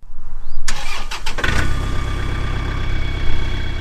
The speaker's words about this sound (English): At Willow Pond Farm in Sebattis, Jill Agnew starts up her tractor to tend to her fields that are about to be planted.